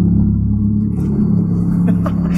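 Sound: car passing by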